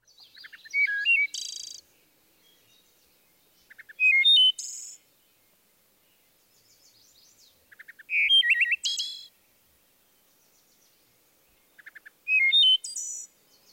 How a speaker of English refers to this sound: The wood thrush, in fact several of the thrushes, are known for their flute-like songs.